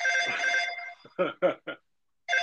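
telephone ringing

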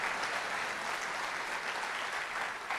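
audience applauding loudly

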